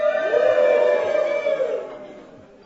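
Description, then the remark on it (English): An audience in Montebelluna cheers a greeting to Cornerstone Calvary Chapel while being filmed for a video, in a sustained, loud collective shout with a steady pitched tone, holding for a couple of seconds before gradually fading out. “Come on, cheer louder.”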